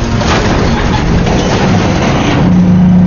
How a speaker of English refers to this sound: Hold on! We're going across! The needles of the gauges on the dashboard began to jump around madly, making it impossible to see if the rattling was doing any damage to the beleaguered diesel engine.